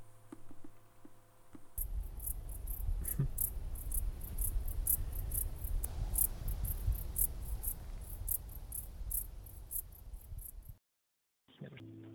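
Woodland ambience in the Dannenröder Wald forest filled with a steady chorus of chirping crickets, high-pitched pulses repeating rapidly over a low rumbling background, then cutting off briefly near the end.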